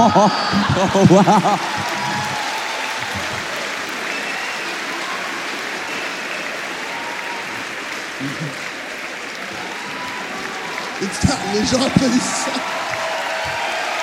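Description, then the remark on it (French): Steady audience applause fills the whole stretch, a dense even patter of many hands with a few chuckles mixed in, while a man briefly speaks over it at the start and again near the end. “Non, mais n'applaudissez pas ça.”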